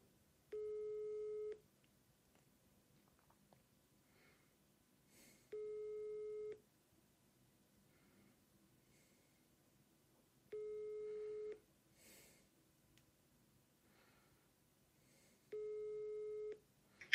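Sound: telephone ringing tone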